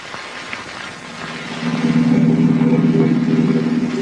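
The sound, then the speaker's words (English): A car engine rumbles quietly, then swells partway through into a loud, steady drone as the car drives off. No one speaks. “The car's over here.”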